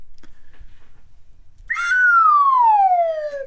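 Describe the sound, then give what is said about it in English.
After a moment of near silence, a slide whistle blows one long, steady note that glides smoothly downward in pitch, loud, fading slightly as it reaches the bottom. “Which is an absolute downslide on the slide whistle.”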